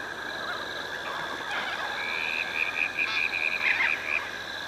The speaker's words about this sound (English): There are some birds and something buzzing away, crickets or cicadas or something. Yeah, you can hear a bit of traffic in the background too.